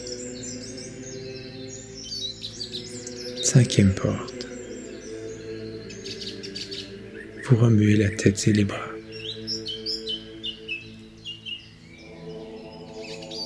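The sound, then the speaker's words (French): Thrushes sing continuously in the treetops, a bright scatter of short, warbling phrases, over a soft sustained musical drone, while a calm voice speaks briefly twice. “Vos oreilles entendent chanter les grives à la cime des arbres.”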